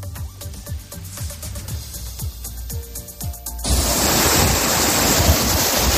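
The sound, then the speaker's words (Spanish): Water from intense rain rushes loudly on a Tuesday in Spain during storm Efrain, first with rhythmic splashing taps over a low churn, then swelling into a dense, steady roar of torrential flow, with no voices. “La actualidad de este martes tiene un sonido propio, el de la fuerza del agua por esa intensa lluvia que prácticamente cae hoy en todo nuestro país.”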